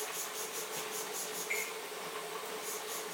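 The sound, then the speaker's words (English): A spray bottle of Tesco kitchen cleaner with bleach being pumped onto a kitchen worktop in a quick, steady series of short, hissy spritzes, moderately loud, with no voices. “Spray a bit of my clean on here.”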